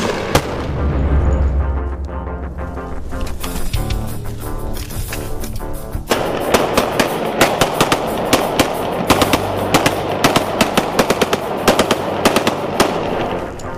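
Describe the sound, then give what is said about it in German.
Loud bursts of rapid gunfire during drug control agency training, sharp cracks fired in quick clusters that grow denser in the second half, set over a steady low rumbling backdrop. “Agon, Feuer.”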